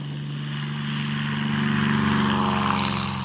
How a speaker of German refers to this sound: Damit er die Tiere Afrikas auch in den unzugänglichsten Winkeln der Steppe beobachten konnte, lernte Bernhard Cimek sogar selbst zu fliegen. Da sitze ich nun in einem kleinen Flugzeug und fliege zusammen mit meinem Sohn Michael allein von Frankfurt